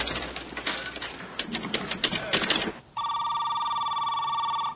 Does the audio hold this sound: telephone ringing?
yes